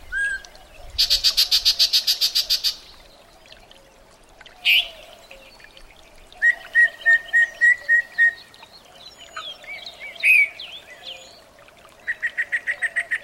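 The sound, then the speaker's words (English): A yellow-breasted chat sings in summer in streamside vegetation of an eastern Washington canyon, a varied, disjointed song: rapid harsh chattering series, sharp single whistles and clipped repeated notes, loud, separated by pauses, with no one talking. “You have just spotted a yellow-breasted chat”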